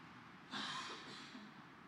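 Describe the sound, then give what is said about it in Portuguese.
A single harsh cough bursts out after a brief quiet moment, then trails off into a rough, breathy exhale. No one speaks. “Eu acho melhor vocês tossirem também, que daí me ajuda.”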